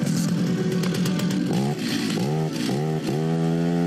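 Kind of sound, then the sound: tool, chainsaw engine revving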